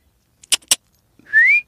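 A person gives one short, clear whistle that slides upward in pitch, preceded by a couple of sharp, crisp clicks, calling a pony that wears a muzzle; no talking.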